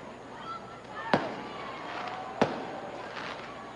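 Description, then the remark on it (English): Two sharp fireworks bangs about a second apart, going off in the background during a baseball game, over a steady hum of outdoor background noise with no one speaking. “Fireworks going off in the background.”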